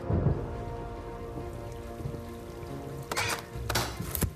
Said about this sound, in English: Under here! Doesn't the rain help?